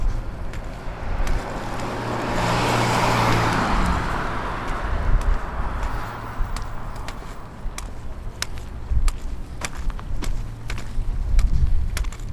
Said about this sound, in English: Car coming from behind.